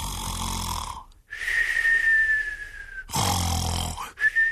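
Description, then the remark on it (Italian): A voice imitates snoring: a rough, rattling inhale followed by a thin, steady whistle on the exhale, repeated twice, fairly loud with no talking. “dormiva e dormiva in un modo curioso, con la testa arrovesciata sulla spalliera della poltrona e con la bocca spalancata, dalla quale gli usciva un rantolino che andava a finire in un piccolo fischio.”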